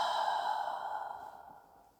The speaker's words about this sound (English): So let's take a deep belly breath. And exhale.